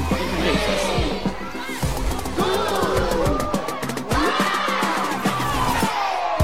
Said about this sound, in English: Children open their boxes, you can hear the laughter, the cheer.